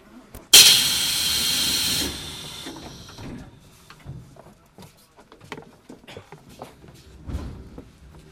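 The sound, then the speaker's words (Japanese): A sudden loud pneumatic hiss bursts out for about two seconds and tapers off as the exit doors of a Tokyu Setagaya Line tram bound for Sangen-jaya close, followed by quieter mechanical clunks and rumbling of the tram interior. “出口の扉先に閉まります。”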